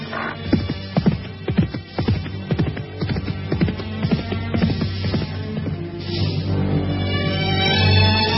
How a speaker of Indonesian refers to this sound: Mus'ab terus memacu kudanya. Debu-debu pasir menggumpal karena terjangan kuda.